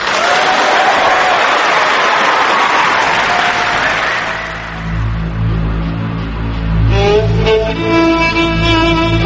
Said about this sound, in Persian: آقایون خانم‌ها، یه بار دیگه جمله گوهربار و ارزشمند آقای نوری و همه نوری همدانی رو با هم بشنویم و بعدش به شدتشون رو تشویق کنیم.